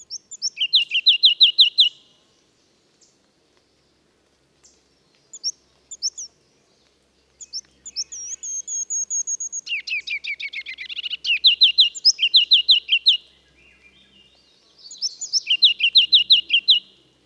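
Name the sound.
ruby-crowned kinglet song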